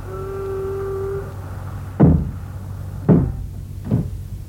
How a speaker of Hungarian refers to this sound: Zárjátok be az ablakot is, hogy ne zavarjon az utca zaja.